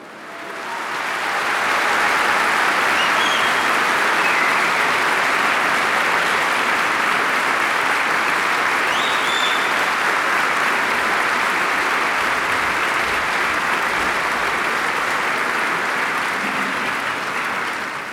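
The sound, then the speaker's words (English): Loud, sustained applause from a concert audience as a performer takes the stage before a symphony. A dense wash of clapping swells in over the first two seconds and holds steady without any talking. “Thunderous round of applause”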